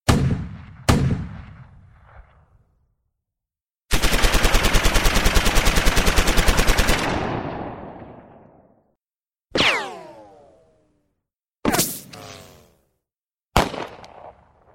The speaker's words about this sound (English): Gunshots.